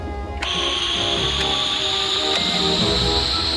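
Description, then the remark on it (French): A loud, steady hiss as the airlock depressurizes with Tintin inside in his spacesuit, rushing in after a faint start and holding throughout, with a high whistling tone that slowly rises and a few soft clicks along the way. “Dépressurisation du sas.”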